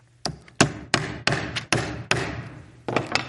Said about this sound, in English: And he hammers 95 items on a list. Now, for you history buffs out there, you know I'm talking about Martin Luther, right?